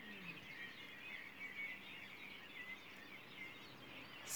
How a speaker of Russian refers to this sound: День летнего солнцестояния, 21 июня. 4:34. Слышите замечательный хор? Это птицы приветствуют появление светила.